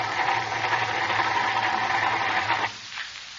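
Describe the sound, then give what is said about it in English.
A car engine cranks with a steady, grinding mechanical whir for a couple of seconds but never catches, its battery running down, then cuts off abruptly into near quiet. No one speaks. “She won't start, Jack. The battery's running down.”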